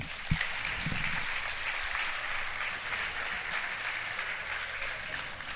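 A sustained round of audience applause, dense and steady clapping at an even volume for several seconds, with no voices over it.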